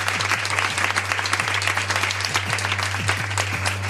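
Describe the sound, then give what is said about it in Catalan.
A large live audience in the Mediàtic building in Barcelona's 22@ district applauds steadily, dense overlapping claps forming a continuous, fairly loud wash of sound with no voices on top. “Un aplaudiment, perquè es noti que avui ha vingut molta, moltíssima gent.”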